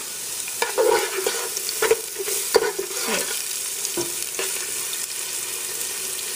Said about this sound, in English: So I'm going to go ahead and put that in our oil, and that's exactly how it's supposed to sizzle.